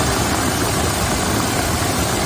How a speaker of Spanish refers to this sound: Es el sonido del agua esta mañana en Badalona, donde se han acumulado más de 50 litros por metro cuadrado.